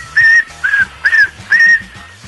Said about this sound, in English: that whistle make me so happy? I don't know, but to me, that is a request for Kevin and Bean Whistle the Hits.